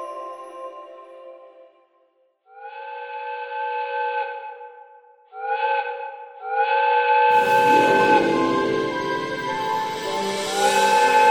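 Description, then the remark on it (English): A steam train whistle sounds in several long chord-like blasts as the 5 o'clock express from Harrogate pulls into Leeds Station in the English countryside on the evening of Saturday, December 3rd, 1881, then a loud rush of hissing steam and rumbling engine noise swells in as the train draws near. “The whistle blew loudly, piercing the English countryside, as the 5 o'clock express from Harrogate pulled into Leeds Station.”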